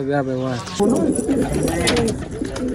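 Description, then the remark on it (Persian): Pigeons kept by a young pigeon fancier coo in a steady, murmuring flurry on a rooftop in Kabul, Afghanistan, in the morning, while a man speaks over them in a voice that fills much of the short stretch. “هر روز صبح برای تماشای پرواز کفترایش در آسمان کابل بالای بام می آید.”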